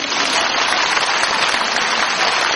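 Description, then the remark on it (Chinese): Steady applause from an audience, a dense crackle of many hands clapping at an even level for a few seconds with no voices over it. “怎么不鼓掌啊？”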